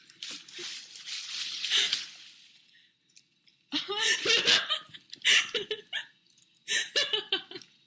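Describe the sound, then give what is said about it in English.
Green gift wrapping paper being torn open on a birthday present, with loud crinkling rips in a long first burst, a short pause, then several more quick tearing bursts. “I shouldn't be opening this till Sunday”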